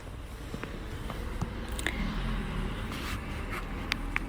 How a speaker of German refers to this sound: Ja, genau jetzt, wo auch mal ein Auto vorbeifährt.